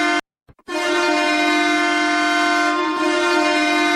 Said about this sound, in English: Train horn for days. Yeah.